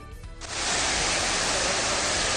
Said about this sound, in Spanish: Este es el sonido que nos llega en este momento desde el pantano de Santomera, que ha comenzado a liberar agua, por lo que el río Segura va a aumentar su caudal